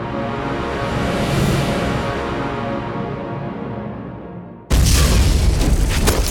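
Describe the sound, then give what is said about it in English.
A loud grenade blast booms and rolls into a long, rumbling roar that slowly dulls, then cuts abruptly to another harsh, noisy burst near the end. No one speaks. “The grenade explosion had sent Sergeant Robert Wesley diving flat on the ground, but a moment later he was up and running to the cover of the office building, M4 Sopmod bouncing in its shoulder sling until he got behind some heavy stonework.”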